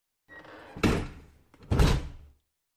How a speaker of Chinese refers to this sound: 你问我为什么把门锁上了？进门之后关门，这不是很正常的事吗？